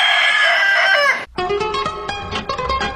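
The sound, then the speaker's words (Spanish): A rooster crows once, loud, its strained, wavering call lasting about a second before cutting off abruptly as music with a steady beat begins. “Chicas, vamos a los gallos.”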